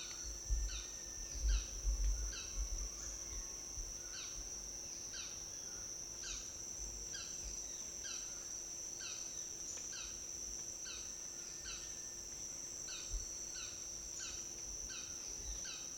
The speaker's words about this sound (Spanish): Y este que está cantando, el que está cantando ahorita es otro pajarito también rastrero. Lo he buscado con el binóculo, pero no lo puedo captar. Solamente se escucha su canto, el que está ahorita cantando.